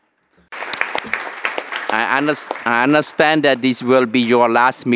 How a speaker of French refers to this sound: vos contributions à la Convention sur les mines antipersonnelles devraient être souligné, salué, et donc je vous invite à applaudir chaleureusement